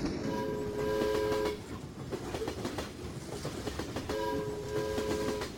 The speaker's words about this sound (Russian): Затем еще некоторое время доносился уверенный перестук колес, а потом и он тонул в дремотной тишине летнего дня.